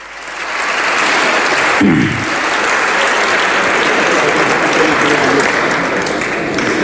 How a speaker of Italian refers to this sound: Primo applauso scrosciante.